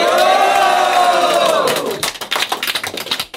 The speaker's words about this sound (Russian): Все, кто знает меня, смелее, дайте овации.